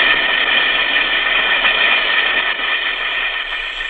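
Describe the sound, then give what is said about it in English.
An Alka-Seltzer tablet fizzing in water: a loud, steady bubbling hiss that holds evenly for the whole four seconds, with no voices over it. “Listen to it fizz.”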